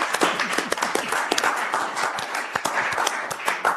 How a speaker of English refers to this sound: Let's give him a clap.